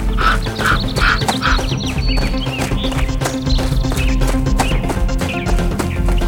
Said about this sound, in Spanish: Los lobos acababan de irse cuando el cielo se oscureció y muchos cuervos comenzaron a bajar a picotearlos a todos. Esta vez, el espantapájaros dio un paso adelante y espantó a todos los cuervos.